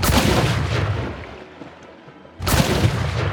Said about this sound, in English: Just another goopy explosion.